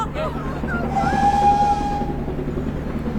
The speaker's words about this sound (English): The window's open! The train!